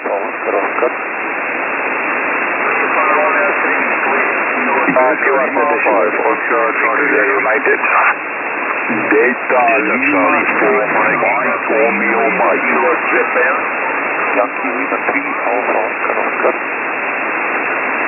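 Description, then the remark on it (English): Faint, garbled voices come through a steady hiss of radio static, rising and fading in bursts as weak transmissions struggle to break through the band-limited noise. “Sorry gentlemen, difficult copies right into the noise.”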